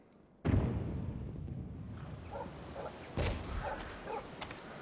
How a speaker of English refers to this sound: To the north. How far do you think? 7-8 miles. The air is heating up. That muffles it. That's a lot of guns.